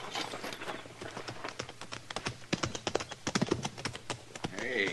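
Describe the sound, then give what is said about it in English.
Hooves of several ridden horses clip-clop in a busy, uneven patter of sharp knocks, fairly loud, continuing throughout with faint background murmur. “Get on off those horses.”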